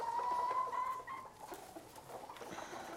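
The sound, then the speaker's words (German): A pet chicken clucks, opening with a drawn-out, slightly wavering call that trails off into softer, scattered clucks and rustling. “Du gibst dem Huhn meinen Namen?”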